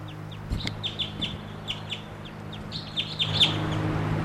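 A wild bird calls in a steady series of short, high chirps, roughly a dozen repeated notes over a low, constant hum, with a slightly louder, sharper note near the end.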